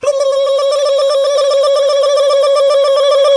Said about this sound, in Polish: Wykonałem kolejny telefon do apteki.